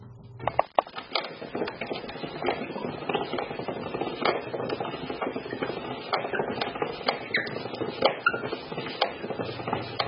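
A gramophone is being wound up: a dense, steady run of rapid ratcheting clicks and mechanical rattles, moderately loud, carrying on for several seconds with no voices.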